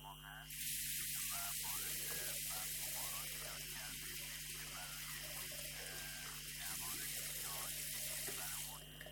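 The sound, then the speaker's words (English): Water runs steadily from a tap over wheat grains being rinsed before they are grown into sprouts for Nowruz, a continuous gushing that starts abruptly and holds at an even level for about eight seconds before cutting off. “Well, first of all, we have to rinse the wheat.”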